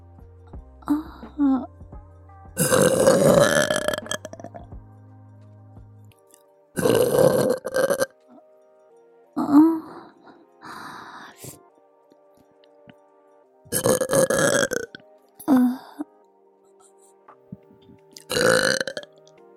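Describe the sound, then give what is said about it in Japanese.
A series of about six loud, drawn-out burps, spaced a couple of seconds apart with quiet gaps, each one deep and rumbling, close to the microphone and alone, with no talking. “いいわよ、もっと聞かせてあげる。ママゲップ、たっぷり味わってね。”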